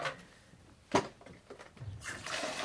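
A sharp clack, then a few soft knocks, and about two seconds in a steady rush of water pours into a kettle being filled to make tea, a bright hiss that holds to the end with no one talking.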